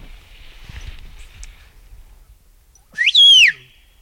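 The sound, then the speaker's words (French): A single loud whistled phrase, rising then sweeping down in pitch, lasting about half a second after soft background rustling and footsteps; the whistle mimics the spoken word "adieu" in whistled patois. “Bon, sifflez adieu.”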